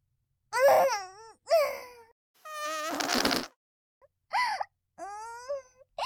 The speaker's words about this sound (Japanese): くぐもった音のえぐいのが出ちゃいました。濃厚なガーリックガス全部お鼻に入っちゃいましたね。